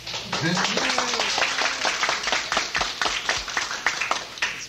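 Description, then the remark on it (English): A crowd applauds steadily as the newly elected members of a board of directors are announced, many hands clapping in a dense, crackling patter that carries on for several seconds, with a voice briefly speaking underneath near the start. “I ask you if you would hold your applause.”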